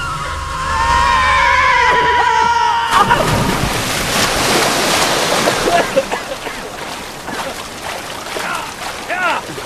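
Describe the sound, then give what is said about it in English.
Horses whinny loudly, gallop towards a cliff edge and jump, then a heavy splash cuts in as they plunge into a river far below, followed by several seconds of churning, rushing water with scattered smaller splashes. “They gallop towards the cliff edge, jump, and plummet into a river far below.”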